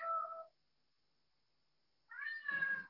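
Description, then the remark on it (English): A cat meows twice to be fed, a short mew followed after a pause by a longer, rising, insistent meow, fairly loud with no one talking. “Yes, kitty. I haven't fed them yet.”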